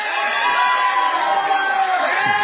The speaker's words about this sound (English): Let's get another round of applause for Jim Earle as Cardinal Melfington, the extremely talented Jim Earle.